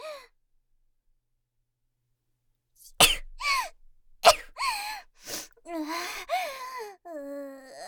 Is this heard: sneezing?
yes